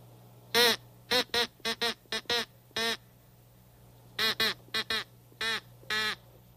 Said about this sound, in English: Crow call. Remember that? Yeah, that's something that you blow into.